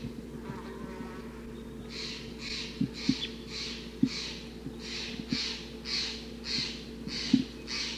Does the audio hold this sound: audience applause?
no